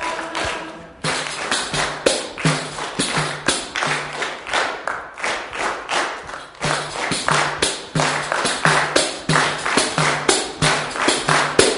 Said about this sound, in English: Good, all right. Keep clapping.